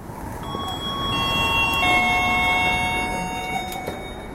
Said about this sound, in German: Wenn man zur Tür reinkommt, begrüßt einen das gemütliche Ticken von grossen und kleinen Kuckucksuhren.